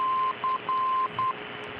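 A local airport's Morse code radio beacon on 332 kilohertz, tuned in on an ICOM radio, repeatedly sends the letters DC as a steady mid-pitched tone in a long-short-long-short pattern over a constant bed of radio static hiss, with no voices.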